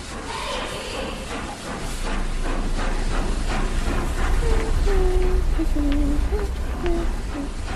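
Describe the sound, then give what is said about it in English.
A train rumbles steadily along the tracks with a constant broad roar and hiss, joined midway by a series of short, high metallic squeals from the wheels. “By the railway tracks.”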